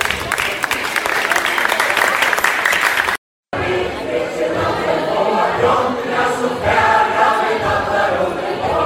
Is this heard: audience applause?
yes